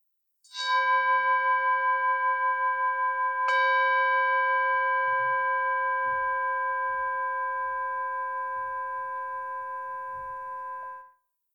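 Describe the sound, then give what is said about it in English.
A meditation chime rings out clearly, struck twice a few seconds apart, signalling the beginning of a meditation, its pure sustained tones slowly fading over about ten seconds with no voices present. “You will hear a chime to signal the beginning and the end of the meditation.”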